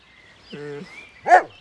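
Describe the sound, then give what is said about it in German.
A dog named Keks, coaxed to howl like wolves, makes a half-hearted attempt: a brief, low, wavering moan, then one sharp yelp-like bark, with no long sustained howl and no one speaking. “Entweder kann er nicht oder er will nicht heulen wie die Wölfe.”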